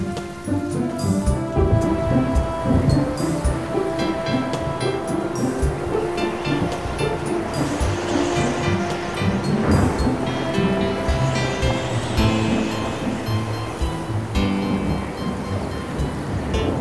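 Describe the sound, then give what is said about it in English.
Loud, continuous rumbling thunder rolls through the whole stretch, layered with sustained musical tones, with no voices present. “But the thunder wouldn't listen to him.”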